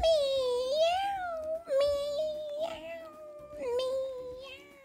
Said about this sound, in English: The kittens cried, for they would have no pie.